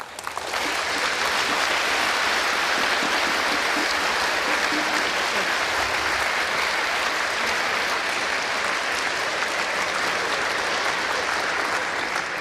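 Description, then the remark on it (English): Sustained audience applause for the sponsor of the CAMP and Congress Network, a dense, steady wash of many hands clapping that holds at full strength for about twelve seconds without any speech over it. “Yeah, CAMP as well as Congress Network is not possible without a sponsor, so please give them a warm round of applause.”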